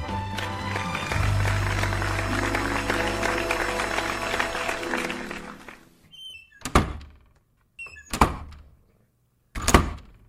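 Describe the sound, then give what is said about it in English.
A busy stretch of music fades out, then three loud door slams follow one after another at steady intervals of about a second and a half, each with a short ring, as every door of a studio is slammed shut. “It's the door slamming. Mo is slamming shut every door of the studio.”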